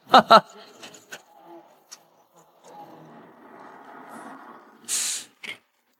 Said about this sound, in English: Some fresh, healthy milk goes into the tank. The milk comes from cows. The tank is full.